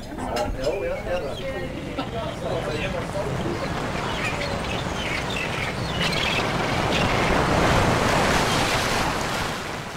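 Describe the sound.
Steady surf washes onto a beach shore, a broad rushing roar that swells louder toward the end, with faint voices murmuring underneath early on and a touch of wind.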